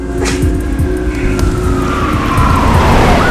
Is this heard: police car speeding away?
yes